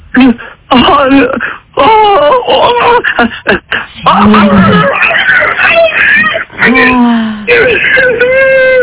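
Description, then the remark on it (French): A voice imitates a very mean wolf with a run of drawn-out, wavering howls and moans, some rising and falling in pitch, loud and continuous with brief breaks between cries. “Fais-nous le loup très méchant.”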